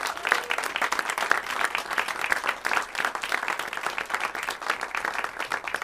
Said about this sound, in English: Could we have a round of applause for the John H. Witte Foundation?